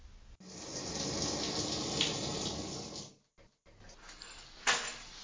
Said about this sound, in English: And remember, when you hear my shower turn off, come up to the master bedroom.